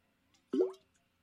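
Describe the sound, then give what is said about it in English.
One loud, wet gulp of water as a person drinks, a hollow clunking swallow lasting under half a second, with near silence around it and no talking. “Excuse me, because that was me drinking water, and it kablunked, if that's a word, kablunked.”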